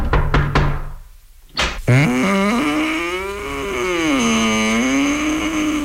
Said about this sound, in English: The train will break down, and Bela will be walking up looking for lodgings for the night. And we hear the knock on the door and the woman answering.